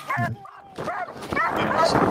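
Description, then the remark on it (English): A dog barks and yips several times in quick succession, loud, with muffled human voices mixed in, during a training session where the people are masked up against OC that does not affect the dog. “We don't have to stop it, but everybody else is masked up because the dog is off about the OC.”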